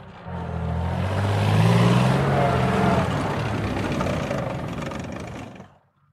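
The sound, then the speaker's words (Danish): The engine of a BMP-1 infantry fighting vehicle rumbles loudly for about five seconds, its deep droning tone rising slightly in pitch as it revs, with broad mechanical roar over the low hum before cutting off abruptly. “BMP-1, infanterikøretøjet her, var altså designet til at operere på en slagmark, der var blevet bombet med atomvåben”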